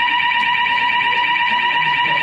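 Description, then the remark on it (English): A building fire alarm blares continuously at a steady, piercing pitch, loud, filling the whole stretch without pause while faint background noise sits underneath. “fire alarm”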